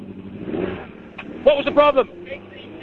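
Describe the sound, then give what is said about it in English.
A rally car engine, restarted after its ECU (engine management system) was changed and still not running right, idles with a steady low rumble, running roughly beneath loud voices that dominate the short stretch. “But they've got that car going, thank goodness for that.”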